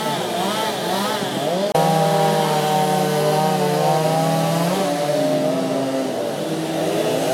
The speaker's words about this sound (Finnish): Sieltä se varmaan karhu muotoutuu hiljakseen karhunveistokisassa. Eipä uskoisi, että on kaupungilla, kun kuuntelee tätä moottorisahojen ulinaa.